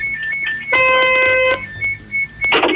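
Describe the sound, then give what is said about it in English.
A forklift's warning alarm beeps in short, high-pitched pulses, briefly swamped by a loud, steady electronic tone, then ending in a burst of rough noise. “What's that alarm? That's the wee thing in the forklift.”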